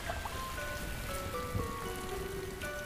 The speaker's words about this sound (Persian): باران مایه حیات جنگل است. هر سال حدود 3 متر باران می‌بارد.